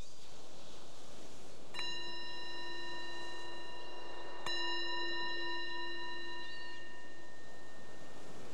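A meditation bell is struck twice, a few seconds apart, each strike ringing out in a clear, sustained tone that slowly fades. No one speaks over the quiet, resonant chimes.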